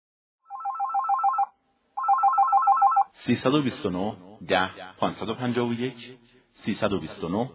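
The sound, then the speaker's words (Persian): A telephone rings twice in short, trilling electronic bursts separated by a brief pause, fairly loud, announcing a listener's call-in question to a history radio program; right after the second ring a person begins speaking. “در ادامه پرسامان تاریخی یک سوال تلفنی خواهیم شنید.”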